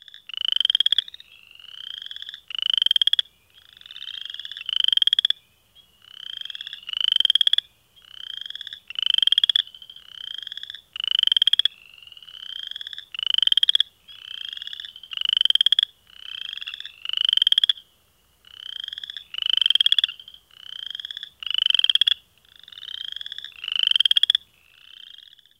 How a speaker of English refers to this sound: In many species, males in close proximity alternate their calls in a regular, non-random fashion. This might reduce interference and help approaching females locate the males. Here's an example of call alternation between two western chorus frogs.